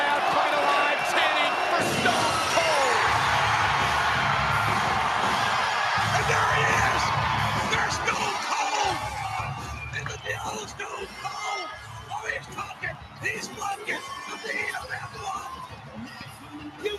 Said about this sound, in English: Crowds just fucking heaving as well. There's just no room to move in there. This crowd has come absolutely unglued.